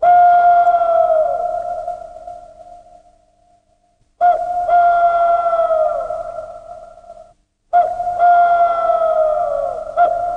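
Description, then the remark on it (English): A folk wind instrument imitates the birdsong of the Russian woods in summer in central Russia, in three long, clear whistling phrases. Each holds a steady mid-high tone before sliding downward, with brief silences between and no voices. “Their voices are imitated with amazing conviction by folk wind instruments.”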